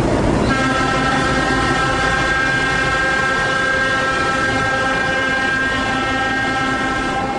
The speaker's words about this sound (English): It's only 7 in the morning, and the 4th train loaded with tourists already left the station to begin the 4-hour trip between Cusco and Machu Picchu.